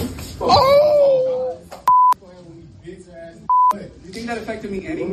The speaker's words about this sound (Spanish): Un estudiante ha sido arrestado por agredir a una profesora mientras sus compañeros grababan la escena y se reían. Los pitos son insultos y lo primero que se escucha es una bofetada a la profesora.